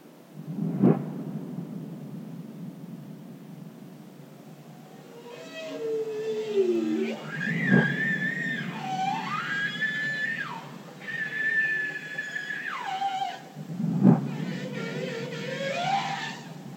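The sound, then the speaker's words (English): Bowhead whale calls recorded underwater: a series of wavering, rising and falling tonal moans and whoops, punctuated by three deep, booming pulses spaced several seconds apart over a steady low rumble. “And she looked at how bowhead whales respond to air gun pulses.”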